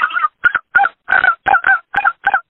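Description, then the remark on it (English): A person imitates a snow goose call: eight short, nasal honks in a quick, slightly uneven series, loud, with brief gaps between them and no talking. “And since I did a turkey call once on the air, I guess I'll do a snow goose call now. It sounds a little bit like”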